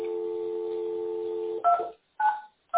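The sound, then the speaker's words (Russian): A steady telephone dial tone gives way to three short, clear DTMF keypad beeps as a number is dialed to call another phone, each tone separated by brief silence, distinct with no voices. “Да, я звоню и один телефон, сейчас еще могу другой позвонить, который доступен.”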